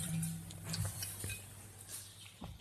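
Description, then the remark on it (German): Wine from the Weingut Stefanie Vornhecke winery in Senheim trickles quietly into a glass with a soft, low gurgle, ending in a sharp, bright clink of glass. No one speaks. “Ja, ich würde nochmal von meinem kurz einen einschenken, weil ich ihn so gern habe.”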